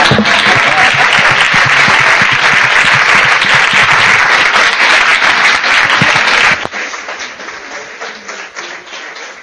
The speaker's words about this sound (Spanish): Y bueno, pues no me aplaudan eso. No.